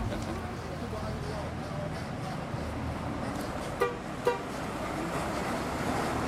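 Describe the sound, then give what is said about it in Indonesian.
A bus engine rumbles steadily throughout as a teacher and schoolchildren board the bus. Midway, a horn gives two short, sharp toots in quick succession, with faint background chatter. “Ayo, kita masuk ke dalam bus.”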